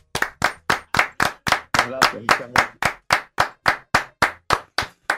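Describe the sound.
Loud, steady rhythmic clapping, about nineteen sharp claps at an even brisk pace, with a brief voice murmuring underneath partway through.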